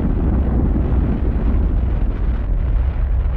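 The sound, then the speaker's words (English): A massive Saturn rocket's engines roar at liftoff from Pad 39 at 11:22 a.m. Eastern Standard Time, flames licking the trench below: a dense, continuous low rumble that stays loud and steady throughout with no voices, heavy and crackling like a powerful blast of thrust. “When the clock read 22 minutes past the hour, flames licked the trench below Pad 39, and the Saturn leapt skyward.”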